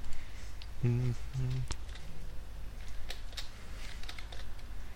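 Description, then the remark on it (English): Scattered, irregular keystrokes on a computer keyboard click away as someone searches Google for the alphabet, with a brief hummed vocal sound near the start and a low background murmur throughout. “Are you typing out the alphabet?”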